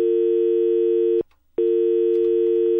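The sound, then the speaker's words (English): A telephone busy tone after a listener's phone call dropped: a loud, steady, low-pitched electronic hum that holds, breaks off for a brief silence, then resumes unchanged. No voices. “We've had a problem with the phone there.”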